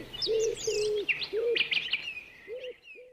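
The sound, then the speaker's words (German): Birds chirp and tweet in a busy overlapping chorus, high quick chirps layered over lower, repeated cooing calls, steady throughout with no talking. “Er flatterte und piepste zwar schon mal durch ein Morgenradio, doch was soll's, der Vogel ist immer wieder aktuell.”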